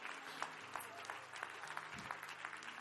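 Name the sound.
audience clapping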